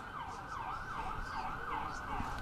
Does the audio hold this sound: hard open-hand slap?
no